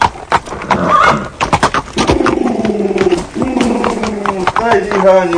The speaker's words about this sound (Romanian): că apare boierul calare de calul lui și trebuie să ne luăm partea